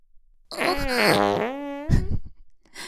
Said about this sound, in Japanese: 強烈。 でも僕ちゃん、おなら大好きだもんね。